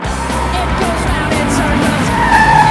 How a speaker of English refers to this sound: A bright yellow sports car pulls up in front of her.